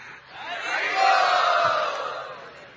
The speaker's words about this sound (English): Let us all cheer his honesty.